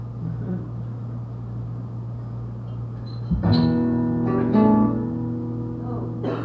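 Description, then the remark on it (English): A steady low engine-like hum fills the interior of a parked car from start to finish, and about halfway through a voice briefly hums or sings a few sustained notes over it. “I'm sitting in a car.”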